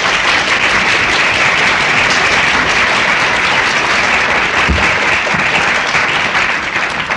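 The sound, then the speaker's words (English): A large audience applauds steadily and loudly for several seconds as the speaker takes a drink of water, dense overlapping clapping filling the space with no pauses and no voices standing out. “I think you think every time I take a drink of water, you have to applaud.”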